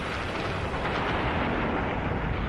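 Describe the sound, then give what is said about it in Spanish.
A huge, sustained explosion roar, a dense, deep rumbling blast that fills the whole clip at steady loudness, like a cinematic sound effect depicting a star's supernova explosion. No one speaks. “La explosión es de tipo supernova.”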